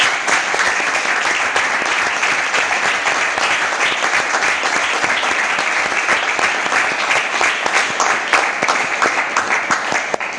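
Sustained applause from an audience thanking someone for their work, a dense wash of many hands clapping steadily at an even loudness for about ten seconds with no voices standing out.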